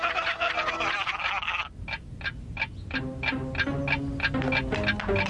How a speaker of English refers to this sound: Hey, mister, you left your clock here in the middle of the street. Good thing we conveniently showed up to return it to you before someone runs over it.